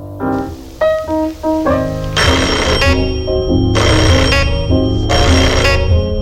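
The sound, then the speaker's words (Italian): A doorbell plays a short run of electronic melody tones, then rings in three loud, harsh, buzzing bursts, each lasting under a second, with short gaps between them. “Far aggiustare sto campanello maledetto che fa sempre dei versi.”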